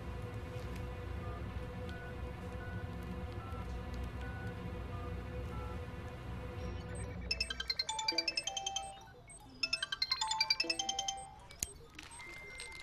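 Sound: mobile phone call ringing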